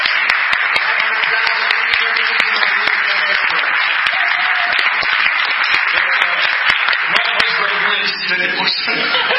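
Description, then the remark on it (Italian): A crowd at a church gathering applauds steadily for several seconds, a dense wash of many hands clapping at once with sharp individual claps popping out, loud, easing slightly near the end. “Voilà, et ceux qui sont venus là, on peut les applaudir.”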